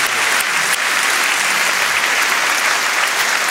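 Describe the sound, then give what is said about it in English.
An audience claps steadily for Janice Stein after a debate's round discussion, a dense, even wash of many hands that stays loud and unbroken for several seconds, with no voices standing out. “Big round of applause for Janice Stein.”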